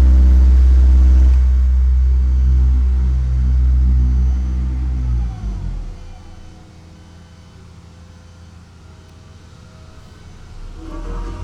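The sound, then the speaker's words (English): A steamroller rumbles past on the street during road paving work, a loud, deep engine drone with heavy low rumble that fades after about five seconds into a softer, steady hum. “Here comes the steamroller.”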